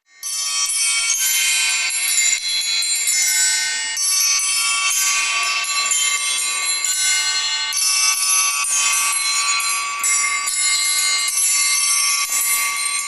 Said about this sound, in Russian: Колокольные звоны на треугольниках и ученических колокольчиках. Вот. И анафановские, петербургские, и владимирские вечерние звоны сегодня прозвучали.